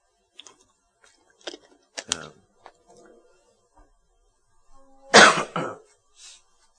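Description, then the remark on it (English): Several short coughs and throat clearings, fairly loud, scattered across the stretch with quiet gaps, ending in a stronger burst of two harsh coughs near the end, from a speaker with a lingering cough. “Still dealing with this cough, thankfully, have not gotten sick this go around.”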